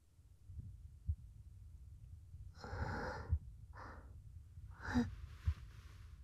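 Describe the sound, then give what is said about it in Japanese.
Soft, muffled heartbeat of a person, heard against their chest during an embrace, thumps in slow lub-dub pairs, with a few breathy exhales and sniffs drifting over them. No one speaks. “鼓動の音が聞こえる。”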